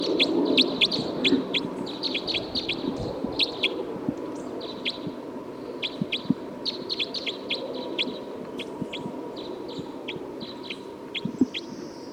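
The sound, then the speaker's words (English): Repeated high, sharp chirps of recorded bird 312 ring out in quick irregular bursts over a steady low rumble of background noise, with no talking. “Recording this is bird 312.”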